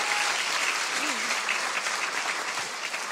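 An audience claps steadily, a dense, even wash of many hands that holds at full loudness for a few seconds, with a faint voice briefly rising beneath it.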